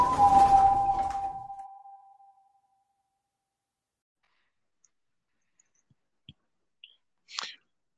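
A single loud door slam right at the start, a heavy thud with a brief metallic ring that fades within about two seconds, followed by near silence and a few faint clicks.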